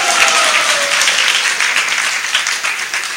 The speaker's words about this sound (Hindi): तालियां बजाइए इनके लिए।